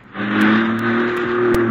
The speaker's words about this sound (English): Carefully, you ease your foot off the brake pedal. Let the car roll back toward the one in the rear. Hey, take it easy.